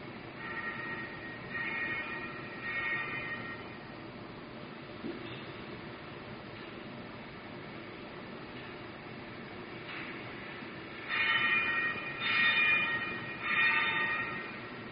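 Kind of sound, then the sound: signal or alarm, church bells ringing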